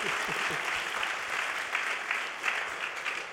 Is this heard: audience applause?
yes